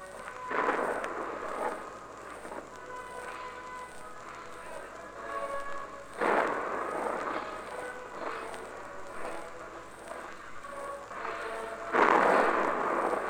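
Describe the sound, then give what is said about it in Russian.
A farewell artillery gun salute at a funeral at the Kremlin wall, as an urn is placed in a niche in the wall: three heavy blasts boom at regular intervals roughly six seconds apart, each rolling and echoing into a lingering rumble. “Гремит прощальный салют.”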